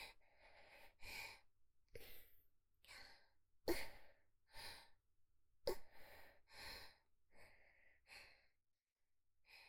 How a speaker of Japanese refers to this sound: 息遣いも変わってきました。